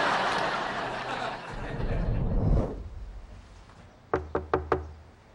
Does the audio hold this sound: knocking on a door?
yes